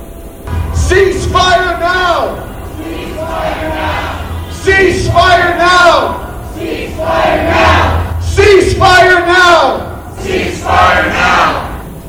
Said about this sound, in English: Protesters waved Palestinian flags and shouted slogans in support of Gazans.